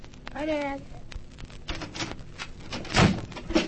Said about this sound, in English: Closed the door and bolted it quickly.